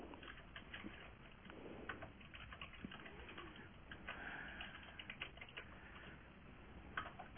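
Rapid, irregular clicking of keys on a computer keyboard, continuous for several seconds, close and fairly quiet, with no voices.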